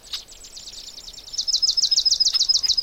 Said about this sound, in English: There, that was the swamp sparrow again. Swamp sparrows are not uncommon up here because they like the edges of lakes and streams and things like that, as well as marshes and even bogs.